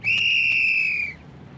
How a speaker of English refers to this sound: The little fat policeman blew his whistle extra hard and put up both his hands.